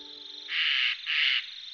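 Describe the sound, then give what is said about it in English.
Two harsh, rasping screeches from a Eurasian jay, a member of the crow family, each about half a second long with a short gap between, loud over a faint background hiss. “This sound is produced by perhaps the shyest member of the crow family, the jay.”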